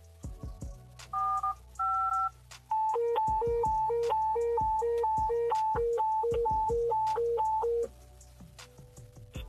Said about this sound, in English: And so now what we can do here is we can key up and the tones will sound.